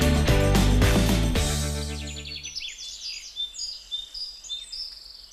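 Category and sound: bird, birds singing in spring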